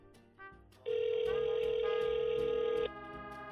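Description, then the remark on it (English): A single loud, steady telephone ringback tone on a Skype call buzzes for about two seconds, then cuts off, over faint background noise and a few soft clicks. “All right, it's not working, but it's ringing.”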